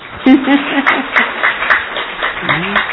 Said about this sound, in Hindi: अच्छा लग रहा था ना सुनने का, हाँ मजा आया ना, तो ताली बजाओ।